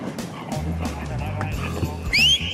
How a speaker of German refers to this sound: Das ist die Paula. Die Paula ist ein deutscher Schäferhund und die Paula wurde ausgebildet, Drogen zu erschnüffeln, die an Personen versteckt sind.